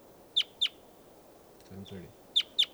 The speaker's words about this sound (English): And there's a wild bird here.